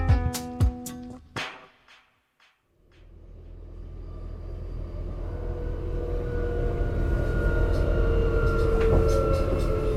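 A brief burst of bright tonal chimes, a moment of quiet, then the steady rumble of an S-Bahn commuter train riding along, building slightly and continuing without voices.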